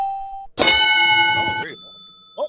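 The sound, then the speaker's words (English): A bright bell ding rings out and its clear tone lingers, fading slowly, while a loud voice speaks over the start of the ring. “I'm no longer allowed to call for a bell, apparently.”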